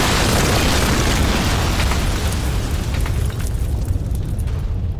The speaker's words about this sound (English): The explosion took out the village, cleared the valley of every living thing, and was heard as far away as Halifax.